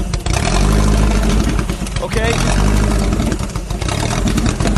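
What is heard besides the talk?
engine revving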